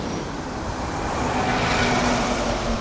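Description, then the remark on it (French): Steady traffic on a city street in Berlin rumbles past, a continuous low roar of cars, many not respecting the speed limits, with engine hum swelling slightly as vehicles pass. No voices, just the dense, unbroken wash of road noise. “des automobilistes qui se garent dessus en double file, voire même en triple file, et de nombreux conducteurs qui ne respectent pas les limitations de vitesse. En tant que cycliste, il vaut mieux éviter cette rue.”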